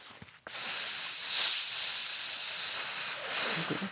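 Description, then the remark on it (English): A voice imitates air hissing past a misaligned aircraft door seal, the inflatable rubber seal on a pressurized plane's door, inflated with air from the engine, with a steady, high-pitched hiss. It starts abruptly after a brief quiet moment and holds at an even, fairly loud level for about three seconds. “And sometimes if you know it's misaligned, you'll hear like a.”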